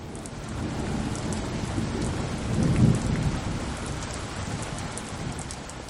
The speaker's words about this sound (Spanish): Estamos en una tormenta y tengo que encontrar rápidamente un nuevo refugio en una zona que no esté bajo el agua.